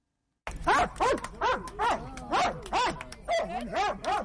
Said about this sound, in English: That's Senna. She's a 9-year-old Belgian Malinois, the dog breed of choice for experts securing areas where there are landmines and unexploded bombs and shells. She's a veteran mine detection dog